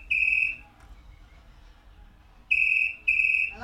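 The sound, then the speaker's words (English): A telephone in a phone box in the middle of a field rings in shrill, high-pitched electronic bursts: one ring, a pause, then a quick double ring, over a low steady rumble with no voices. “So a phone box rings in the middle of a field, and what you're about to hear is a random lady who just went to pick up the phone out of curiosity.”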